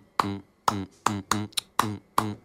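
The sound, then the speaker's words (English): Crisp hand claps tap out a syncopated 3/2 clave rhythm, the traditional rumba clave, in 4/4 time: six sharp hits plus one softer extra clap, each with a short ringing tail, played alone with no talking. “And that's what you're clapping.”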